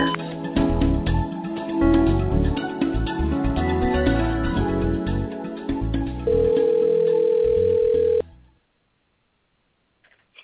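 The phones of the radio call-in show Tarot of Empowerment Radio ring after a busy stretch of music: one steady, unbroken tone holds for about two seconds at a fairly loud level, then cuts to silence.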